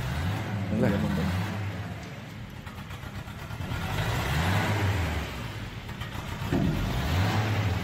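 A V4 engine revs up in three repeated surges, its low growl climbing in pitch and falling back each time, fairly loud against a steady rumbling idle.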